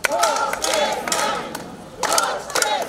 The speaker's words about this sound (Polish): W Bolesławcu protestowało kilkaset osób, które przeszły ulicami miasta.